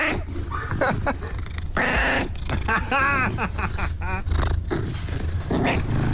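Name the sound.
cat meowing and purring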